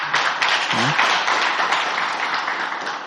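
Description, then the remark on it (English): A crowd claps steadily for a praise and worship team, a dense wash of many hands applauding together for about three seconds, with a brief voice murmur near the start. “Let's give a big hand clap to praise and the worship team.”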